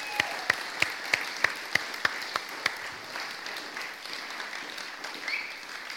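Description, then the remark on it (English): An audience applauds in the morning for those in the game show, the band and the drama. A few sharp claps in a steady rhythm stand out at first, then blend into a continuous, moderately loud patter of many hands. “I think we should give them a round of applause here this morning.”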